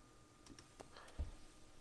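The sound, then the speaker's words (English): A handful of soft, quick clicks tapped out at an uneven pace as a zip code is typed on a keypad, quiet with no one talking. “I left it to all, and I typed in the zip code, and a whole bunch of point of interest came up.”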